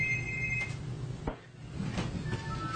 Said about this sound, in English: I'm glad that wasn't my phone that just went off.